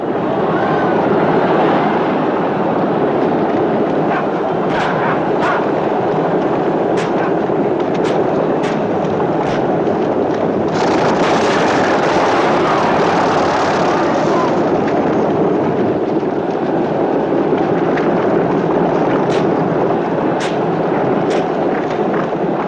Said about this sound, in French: Pour vous donner une idée de l'ambiance, voici un extrait de la course de char. Pas de dialogue, on y entend les chevaux, les roues qui s'accrochent, les coups de fouet des conducteurs de char et bien sûr la foule.